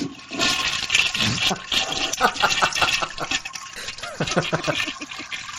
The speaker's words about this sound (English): Wait for it. That's a lengthy flush. It's powerful.